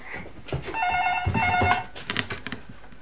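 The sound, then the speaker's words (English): A telephone rings with a bright, electronic warbling tone lasting about a second, surrounded by clattering and handling noises. “Oh, bring them to the phone.”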